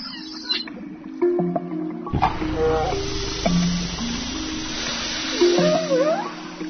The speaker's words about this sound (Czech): Zaboravili smo da vam kažemo, on je kao i svi drugi kitovi imao na glavi vodoskog. Kroz njegove nozdrve šikljio je visoki mlaz slane morske vode i posipao se na njegove male oči.